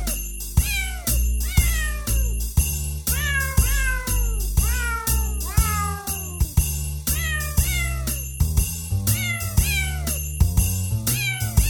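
Sampled cat meows pitched into a bouncy Christmas melody, each meow sliding down in pitch over a steady beat and bass, with a tinkly bell-like sparkle, loud and continuous with no talking.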